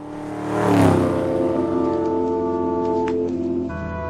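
A car engine revs up loudly, its pitch climbing as it accelerates, then holds a steady roar before shifting gear near the end. No one speaks.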